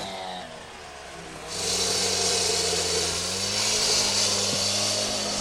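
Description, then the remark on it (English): Heavy machinery hammering away at concrete to remove a dam on the Ompompanoosuc River, working all morning: a deep engine drone gives way to a loud, continuous rattling pound that starts abruptly and carries on steadily, with no one talking. “They've been working all morning, hammering away at the concrete.”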